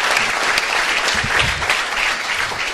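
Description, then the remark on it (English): A room full of people claps steadily for a graduate, a dense wash of hand claps at fairly loud, even level throughout with no voices rising above it. “Now Santos, we owe Santos a big round of applause as well, because he's going to wear the graduate patch.”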